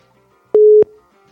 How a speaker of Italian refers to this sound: Io ho pigiato il bottoncino. Yes. Per inoltrare la chiamata. E che infatti squilla, squilla.